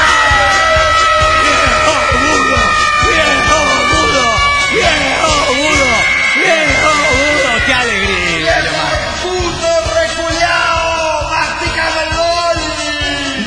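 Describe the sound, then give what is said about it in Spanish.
A loud, dense crowd of Chilean football fans yelling and chanting together, many voices overlapping in a continuous roar that stays strong throughout with a brief dip near the middle. “Hemos dejado de desahogar ese grito que viene desde Chile, desde las entrañas del Temuco. Yo creo que es la garra blanca.”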